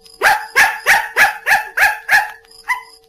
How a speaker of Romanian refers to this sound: Bravo! E într-adevăr ora 7:15. Ce cățel învățat! Grozavă potaie!